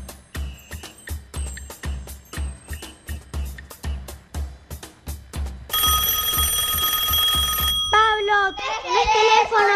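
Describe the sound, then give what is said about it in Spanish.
A telephone rings with a steady, bright electronic trill for about two seconds, sounding over an upbeat music track with a bouncy rhythm; a singing voice follows right after. “Teléfono, qué intriga, ¿quién estará del otro lado?”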